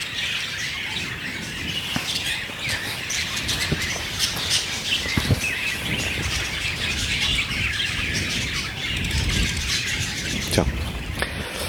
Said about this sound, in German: Wie so ein Käfig, ne? Als wäre das Zufall, oder? Ja, als wäre das hier vielleicht ein Vogelkäfig oder so.